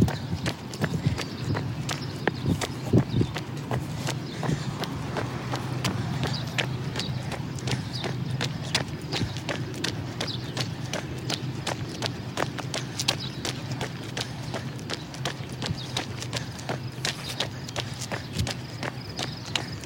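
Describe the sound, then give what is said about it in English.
A long run of footsteps, quick hard impacts landing in a steady, rapid rhythm, continuing without pause over a low rumbling background. “During that time for me, I had another run of footsteps, heard birds, heard the echoing of noises in my footsteps as I ran under a tunnel.”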